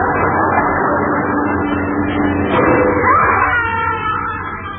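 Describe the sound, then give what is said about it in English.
A car brakes suddenly over a steady engine rumble, with a brief tire squeal cutting through before the noise eases off and fades slightly. “Marvelous what a quick touch of the brakes can do.”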